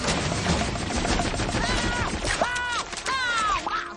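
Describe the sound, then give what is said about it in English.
A dense, continuous barrage of booming gummy cannon shots fires in rapid succession, loud, with high whistling squeals rising and falling over the blasts in the second half. “Gummy cannons, in position, fire at will!”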